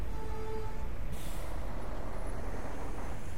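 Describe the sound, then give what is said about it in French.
A steady, heavy engine rumble of a bus bound for Terelj park, broken by a short, sharp hiss of air brakes releasing near the start. No one speaks. “D'abord, je monte dans un bus.”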